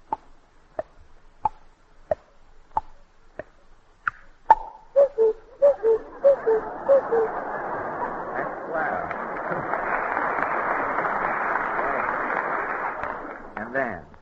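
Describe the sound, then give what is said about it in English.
A voice imitates a cuckoo clock using only the mouth: a steady run of sharp ticking clicks, then several quick two-note cuckoo calls stepping from higher to lower pitch, followed by a long stretch of loud applause. “The next is the cuckoo clock.”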